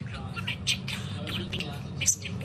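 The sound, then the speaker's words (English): A blue budgerigar chatters and chirps in quick, scratchy bursts, with one sharper, brighter chirp near the end, all over a steady low background rumble. “he's a blue budgie”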